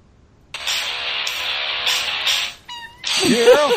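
A cat-meow version of a song: a cat meows in a drawn-out, sing-song way, its wavering cries stretched like a melody over a steady background of music, with a brief pause before a final, rising run of meows.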